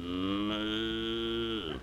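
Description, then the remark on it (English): A single long cow moo on a farm, loud, holding a steady low bellowing tone for almost two seconds before dropping off at the end, with no other sounds around it. “Pigs. Cows.”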